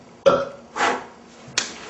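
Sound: burp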